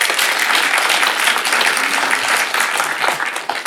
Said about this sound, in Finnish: Niin paitsi Satu Hassille, niin samalla vielä toiset tervetuloa aplodit Silvia Hosseinille.